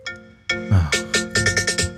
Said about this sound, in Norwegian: For du er på mobilen nå? Jeg er på mobilen, jeg tror det ringer.